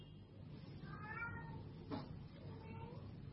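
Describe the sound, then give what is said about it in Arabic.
A cat meows twice, a drawn-out rising and falling cry followed by a softer, shorter one, over a steady low background hum, in a home with many cats. “ليس بها شيء، عندنا قطط كثيرة”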